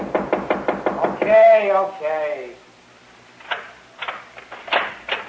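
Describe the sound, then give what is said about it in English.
A quick, steady run of about eight loud knocks on a door, followed right after by a voice calling out for the person inside to open the door, and more talking. “Nick, in there. Come on, open the door”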